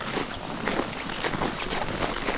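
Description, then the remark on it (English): Several people in a group walk outdoors in single-digit temperatures, their footsteps overlapping in a steady, crunching shuffle that stays fairly even throughout, with no talking. “Back outside, the group walks to stay warm in single-digit temperatures.”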